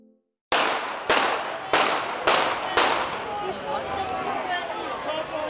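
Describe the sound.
Five sharp gunshots crack out about half a second apart in the central square of Handlová, Slovakia, in May 2024, each leaving a short reverberant echo, followed by a wash of agitated voices.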